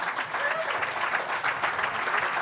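A room full of people claps steadily, a dense, even wash of applause that stays loud and sustained throughout with no gaps and no voices standing out.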